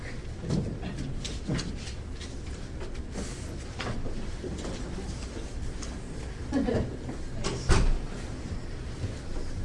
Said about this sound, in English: Maybe we'll close the door here. Is there anybody else coming?